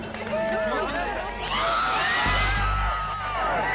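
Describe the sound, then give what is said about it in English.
A crowd of several hundred outside a courthouse erupts in cheers around the announcement of a verdict, with overlapping shouts, whoops and screams that swell into a loud roar midway, then carry on as a steady, excited din. “Outside the courthouse, a crowd of several hundred had gathered as the announcement of the verdict neared.”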